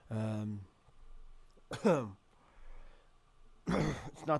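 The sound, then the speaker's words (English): A strained, voiced gasp followed by two harsh coughing bursts spaced about two seconds apart, with a choking, throaty quality and quieter breathing in between. “I'm so confused right now because my cough. I was choking.”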